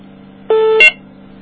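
A short electronic caller ID beep on a phone line during a three-way call, two joined tones with the second pitched higher, sounds once over a faint steady hum.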